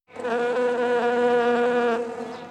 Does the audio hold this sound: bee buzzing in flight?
yes